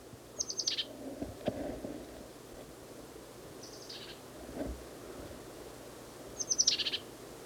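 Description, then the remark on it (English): A bird, at least 40 feet away, calls in three short bursts of high, rapid chirps that slide downward, spaced a few seconds apart, over a steady low rumbling background with no talking. “Same bird as last cut.”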